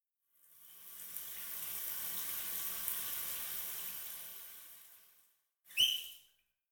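A shower sprays steadily for about five seconds, an even hiss of running water that then cuts off, followed by a brief, sharp squeak.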